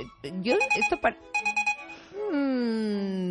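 A message notification beep: a quick electronic jingle of chirpy tones, then four rapid pulses over a steady high pitch, ending in a long sustained tone that slides slightly downward.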